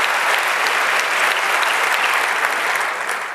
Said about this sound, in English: Give a warm applause. Thanks.